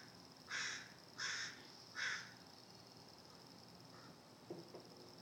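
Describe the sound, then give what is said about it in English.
Baby crows in a nest give three harsh, raspy caws in a steady, evenly spaced row, followed by a couple of fainter, shorter calls over a soft, continuous high hiss. “Yep, there's a little nest of baby crows up here.”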